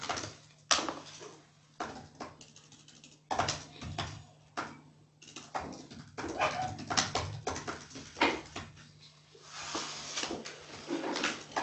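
A dog whimpers in short, uneven bursts with brief pauses between, over a steady low electrical hum. Nobody speaks.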